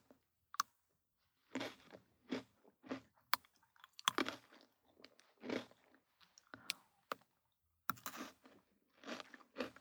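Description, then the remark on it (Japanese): Crisp crunching of someone biting and chewing Pocky stick snacks, a steady series of sharp snaps and munches in an otherwise quiet room, with no talking. “なんかさ、静かな部屋にポリポリってポッキー食べる音だけ響いてるって面白いね。”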